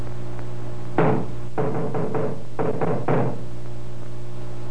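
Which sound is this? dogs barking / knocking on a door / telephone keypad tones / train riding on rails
knocking on a door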